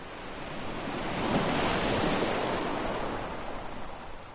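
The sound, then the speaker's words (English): Ocean waves break on the shore in a broad, hissing wash that swells to a peak midway and slowly recedes, steady and full with no voices. “Imagine the sea with its vast beauty.”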